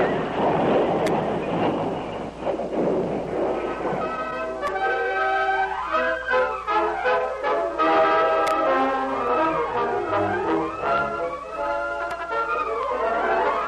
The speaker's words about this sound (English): suddenly, as the stage rounded a sharp turn on the dangerous trail, the left front wheel loosened and flew off. The horses squealed in terror when the heavy vehicle dragged. The traces snapped as the stage catapulted over the side of the embankment.